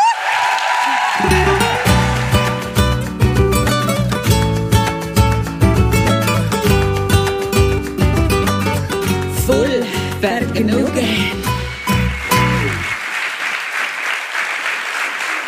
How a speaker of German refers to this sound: Nie enden wollender Applaus.